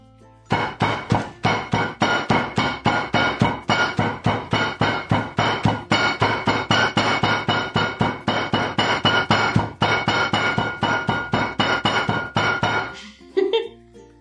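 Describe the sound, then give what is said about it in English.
A hammer pounds coffee beans in a bag laid between towels, to try to grind them: dozens of rapid, muffled thuds in a steady rhythm that stop abruptly near the end. The blows are fairly loud. “You better be pretty desperate if you're using the hammer method to grind your coffee beans.”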